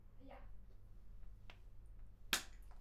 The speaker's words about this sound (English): Okay, I'll clap.